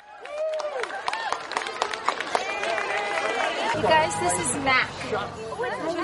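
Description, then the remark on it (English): An outdoor crowd in Riverside Park, New York City, cheers and chatters with excited overlapping voices at the arrival of 24 goats, steady, with a low rumbling hum joining partway through and scattered shouts rising above the hubbub. “There's a fenced-off path, park rangers here and there, people cheering and trying to snap a picture.”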